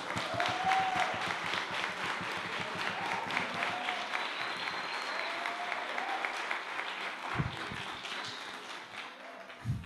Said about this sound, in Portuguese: Gente, eu queria que vocês aplaudissem essa turma.